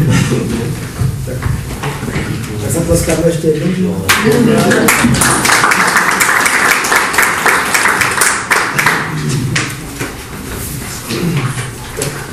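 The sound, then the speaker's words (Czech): Talk gives way to a burst of applause from a group at a meeting after a resolution is adopted by vote, a dense, steady patter of many hands clapping for several seconds, with voices continuing underneath and after. “Takže 18 pro, nikdo nebyl proti a jeden se zdržel, návrh byl přijat a já si myslím, že až teď můžeme tleskat.”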